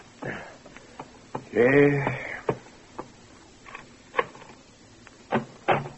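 Heavy knocks thud against a bedroom door in irregular bursts, late in the morning, several blows spaced across a few seconds, with a short vocal murmur early on.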